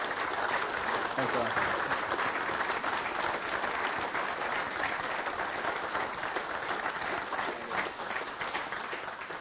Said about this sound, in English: How about we give Jim a big round of applause first?